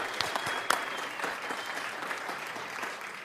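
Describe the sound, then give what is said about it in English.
Steady applause from a morning crowd at a Christmas Wonderland event, thanking the host, a co-owner of TreeTime.com: a dense wash of many hands clapping at a fairly even level, with a few sharper individual claps standing out early before it tapers slightly. “Let's hear it for her.”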